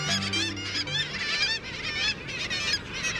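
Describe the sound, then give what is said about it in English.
Black-legged kittiwakes, oceanic gulls, call in a dense, overlapping chorus of nasal, wailing cries. The cries repeat continuously and loudly, like a busy colony, with no talking. “The cry of the kittiwake rings out across the Northern Ocean.”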